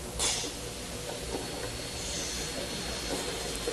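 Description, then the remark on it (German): A mini vacuum cleaner, used to remove left-behind hair, eyelashes and skin flakes, runs with a steady, airy whooshing hiss, starting with a brief louder burst and then holding an even level for a few seconds with no one speaking. “Ein Mini-Staubsauger.”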